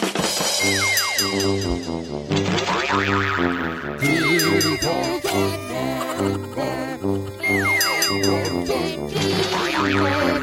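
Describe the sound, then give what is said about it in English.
A bouncy, upbeat theme song jingle plays loud for about ten seconds, with a steady bass pulse, bright melody and cartoonish boing-like sliding tones, no one talking over it. “That was a cue for me to do the theme song, but I got distracted by a text about our new theme song that should be coming soon.”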